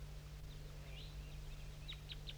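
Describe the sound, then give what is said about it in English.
Several high, thin chirps from wild birds down in an oak tree sound in quick bursts, with a few sharp downward tweets near the end, fairly faint over a steady low hum and outdoor noise. “And there's some wild birds I'm going to point to that are down still in that oak tree.”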